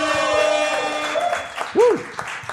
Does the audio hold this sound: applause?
yes